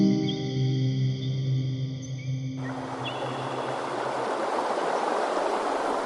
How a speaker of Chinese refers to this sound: 哇，这里的河水很急，是吧？那、啊、约旦河呢，就在这里注入沼泽化的胡拉湖。